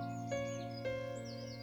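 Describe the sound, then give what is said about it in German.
Faint birds chirp and twitter in quick, scattered calls in the crown of an ancient tree, set against a steady, sustained musical drone that fills the background. No one speaks. “Und in seiner Krone leben unzählige Vögel.”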